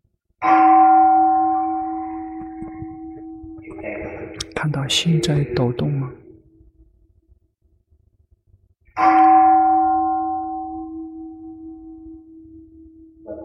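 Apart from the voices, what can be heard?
meditation bell ringing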